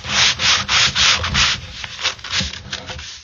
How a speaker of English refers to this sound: That's some chair sanding there from Rob.